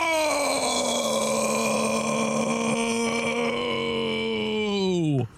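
A loud, sustained vocal cry holds a steady pitch for several seconds, then sags and roughens into a long, croaking burp that drops sharply in pitch before cutting off.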